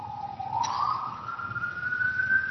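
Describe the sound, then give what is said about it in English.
A police siren wails steadily, its tone sliding slowly upward and holding high, over a low rumbling background. “And listen to the sirens. Listen to the sirens.”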